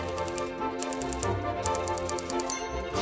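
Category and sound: machine, typewriter keys clattering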